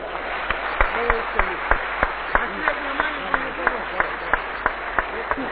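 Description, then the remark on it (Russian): Audience applause in a steady, rhythmic beat, sharp claps landing roughly three times a second at a moderate level, with voices murmuring and talking underneath throughout. “Маленькая, это не важно, не важно, дело не в аплодисментах, я и так чувствую.”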